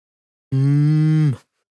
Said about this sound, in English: Avec leur manteau de longs poils épais, les vaches Highland sont bien adaptées aux hivers extrêmes de l'Écosse. The Highland cow.